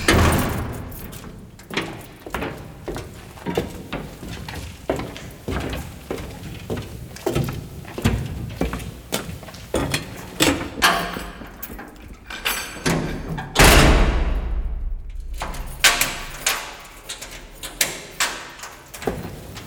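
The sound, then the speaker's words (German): Repeated metallic clanks, thumps and bangs ring out irregularly, with a loud heavy crash partway through, over a steady mechanical rumble inside a briquette factory. “So, und dann der Kontrast im Grunde, wenn man in die Fabrik geht, das Scheppern von Metall, was so völlig anders ist, so mechanisch, so kalt.”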